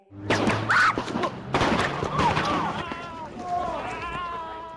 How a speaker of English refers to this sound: Okay, there was just gunfire, and now cops have guns drawn. Shots fired in the city of Ferguson early this morning, posted to YouTube, hitting two police officers less than a day after embattled police chief Thomas Jackson agreed to resign.